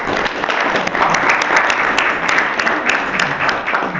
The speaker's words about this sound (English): First of all, round of applause.